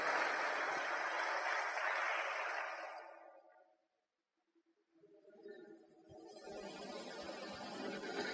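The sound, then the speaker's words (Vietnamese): People clap steadily to congratulate the children, the applause fades to a brief hush, then a second round builds back up, dense. “Và chúc mừng các con, một tràng pháo tay, các con đều là những vị Phật tương lai.”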